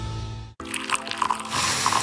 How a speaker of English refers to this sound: Smell that? That's the smell of carefully crafted coffee being poured into your cup with natural notes you can truly taste and freshness you can count on.